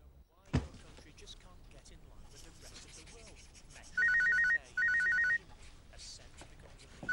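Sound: mobile phone ringtone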